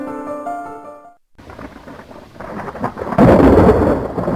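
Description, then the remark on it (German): A few brief musical tones give way to a thunderstorm: steady rain hiss swells under rolling thunder that builds to a loud crash near the end. “Gewitter, Blitze zucken, Donner kracht, Takel ist die dunkle Nacht.”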